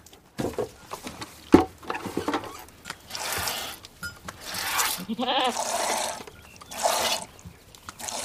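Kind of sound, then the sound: animal, goats bleating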